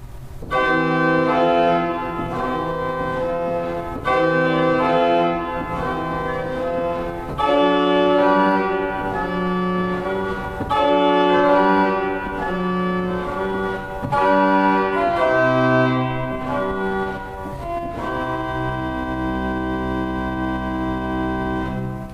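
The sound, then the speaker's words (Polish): Pipe organ with eight-foot string stops, short sustained chordal phrases alternating between the thin, soft aeoline and the brighter, louder gamba in an echo-like dialogue. No voices. “Tak właśnie brzmi eolina ośmiostopowa i skonfrontujmy ją teraz z gambą ośmiostopową, czyli najcichszy głos smyczkujący z głosem najgłośniejszym z tej samej rodziny.”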